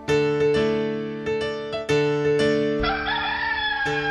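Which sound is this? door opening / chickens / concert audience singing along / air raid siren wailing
chickens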